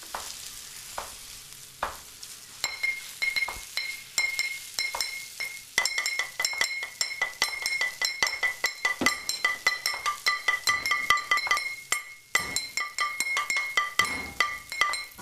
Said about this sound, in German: In der Küche. Hier gibt's Teller, Löffel, eine Pfanne, alte Flaschen, einen Ofen, brutzelndes Essen.